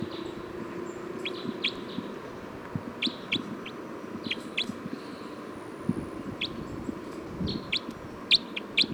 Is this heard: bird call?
yes